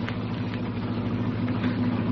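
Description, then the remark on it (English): Billy Johnson's old jalopy, going into second gear and slowing down on a cold evening, runs with a steady, low droning rumble and a faint rattle over it, holding an even loudness throughout, with no voices. “Oh, it's Billy Johnson's jalopy.”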